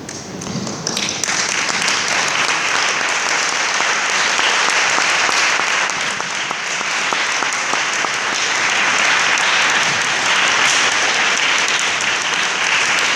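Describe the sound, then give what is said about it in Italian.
A crowd applauds steadily for over ten seconds, a dense, even patter of many hands clapping that stays loud throughout, with no voices standing out. “Non so se è un applauso liberatorio, però se mi concedete ancora 3 minuti volevo arrivare alle conclusioni.”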